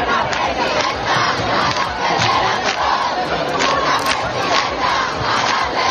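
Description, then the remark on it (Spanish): A crowd of hundreds gathered in Madrid in support of footballer Jenni Hermoso chants and shouts slogans together, such as "No es un pico, es una agresión". Many voices blend into a steady, rhythmic roar and a loud, continuous din with no pauses. “No es un pico, es una agresión, era una de las consignas que gritaban.”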